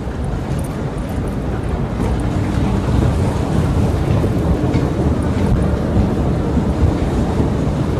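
A deep, continuous rumble fills an underground subway platform, steady and loud throughout, as a subway train rolls along with a broad low roar and faint metallic hiss.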